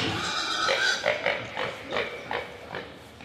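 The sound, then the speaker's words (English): Pigs in show pens at a pig show grunt in a steady series of short bursts, about half a dozen in quick succession, over a constant background hubbub. “so he's carried on and been kept as a breeding pig. Yes. The pens are starting to fill up”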